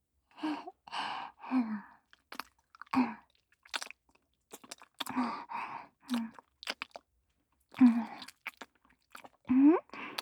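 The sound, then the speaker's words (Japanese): Close, wet mouth chewing and smacking in short irregular bursts, mixed with soft breathy sighs and murmured vocal sounds between the bites. “私にチンカスもぐもぐされて興奮したの？”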